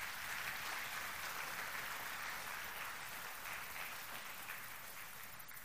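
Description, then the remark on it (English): An audience claps their hands to the Lord steadily for several seconds, a dense, sustained patter of many hands, fairly loud and without any voices over it. “If you're with us, can you clap your hands to the Lord?”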